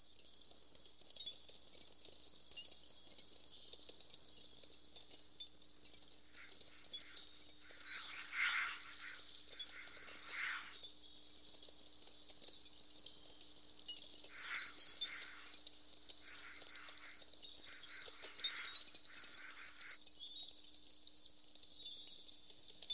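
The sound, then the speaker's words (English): A dense, bright crackling of smoldering charcoal fills the whole stretch, countless tiny tinkling sparks overlapping in a steady hiss, with occasional fuller bursts and a slight swell in loudness halfway through. “Like in Xenakis Concrete PH2, made from the sounds of the discharge of smoldering charcoal, tinkling all over the Brussels pavilion, like needles darting from everywhere, as Xenakis says.”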